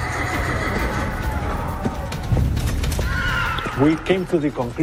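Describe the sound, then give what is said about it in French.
A horse neighs near the end, a loud, quavering whinny with rising and falling pitch, following a few seconds of steady, droning background sound. “Certains avaient des chevaux. Cet animal n'existait pas en Amérique du Sud.”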